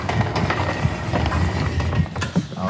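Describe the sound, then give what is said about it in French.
A sheep milking machine in a two-by-18-stall milking parlour, milking 18 ewes at a time, runs steadily, its continuous mechanical hum broken by regular clicking, pulsing beats and a faint high whine. No one speaks. “C'est la machine à frais.”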